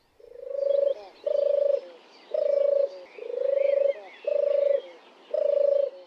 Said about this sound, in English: Oh, and apparently it purrs rather than sings. Maybe you can find us a bit of tape of a purring turtle dove